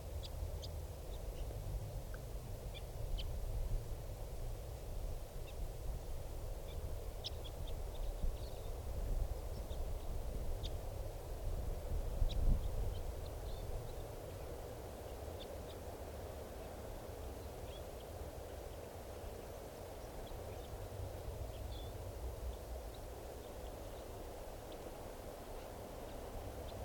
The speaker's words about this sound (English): Here's the bird.